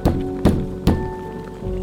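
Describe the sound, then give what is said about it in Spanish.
Someone knocks again at a door: three firm, evenly spaced knocks, then a fourth thud after a short pause, with a steady low hum running underneath. “La señora ya era bastante grande, así que tomó su bastón y caminó lentamente hacia la puerta. Pero antes de que pudiera llegar, volvieron a tocar.”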